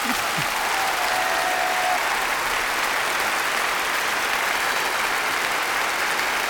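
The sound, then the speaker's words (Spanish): Sustained applause welcoming two runners-up in women's 3x3 basketball at the Paris 2024 Olympics, a dense, steady wash of clapping at an even loudness throughout, with no voices standing out above it. “Un aplauso para ellas, bienvenidas.”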